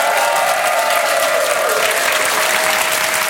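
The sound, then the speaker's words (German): A large audience claps steadily and loudly at the end of a Die schönsten Krisen show with Olaf Schubert and Stefan Ludwig, a dense, continuous wash of applause that fills the whole stretch without pause, with no voices standing out above it. “Mit Olaf Schubert, das war ja kaum noch Applaus, das war ja schon 2-0.”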